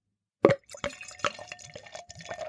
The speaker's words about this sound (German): Der hat erstens ein anderes Glas. Da fließt das Bier auch schon vom Geräusch her ganz anders rein.